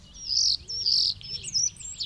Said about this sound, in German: Und Tatsache, auf einem Ast vor dem Fenster saß er, Mozarts Star, und zwitscherte ihnen fröhlich zu.